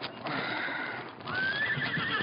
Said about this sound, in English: Fred stirred and sat up as he heard the whinny of a horse close by.